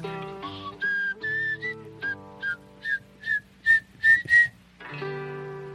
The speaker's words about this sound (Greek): Το σφυρίμα μου, φοβερό. Φίλε, που το καρτούν της Disney, το Robin Hood 1970 κάτι.